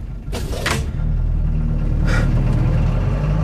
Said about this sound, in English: Traffic's a bit heavy on the Cromwell Road. I'll try going up Brompton.